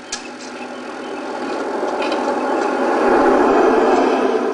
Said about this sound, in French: Voiture.